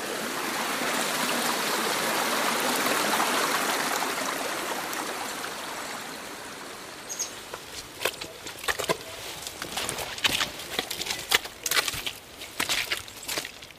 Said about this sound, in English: We had 52 mil of rain last night, and I'm just walking up to the top of the hill. Although most of the trails that we take up to the hill now are actually small streams or waterfalls due to the amount of rain we've had.